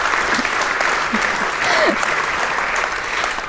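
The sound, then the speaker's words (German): Steady applause from a crowd, dense clapping filling the whole moment at an even level, with a brief faint voice or whistle-like sound rising partway through. “Ist definitiv einen Applaus wert.”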